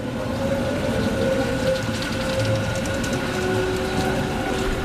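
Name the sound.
tram running on rails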